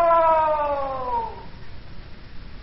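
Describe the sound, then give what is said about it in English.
A drawn-out shouted "Hello!" echoes back through a canyon, its wavering tone sliding slowly downward and fading out after about a second and a half, leaving only a soft hiss. “It's an echo.”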